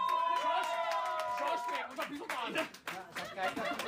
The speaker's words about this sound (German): Jetzt Applaus aber auch voll. Komm, Applaus.